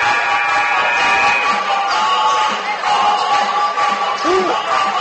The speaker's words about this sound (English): Up to a raucous crowd here at Jackson Center. A little music pipes up along with the Tigers' pep band.